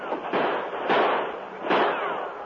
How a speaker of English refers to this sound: Then bullets began to fly from another direction. Hey! Men coming up the gangplank. Tonto, with the sheriff and his men, ran up the gangplank, firing as they came.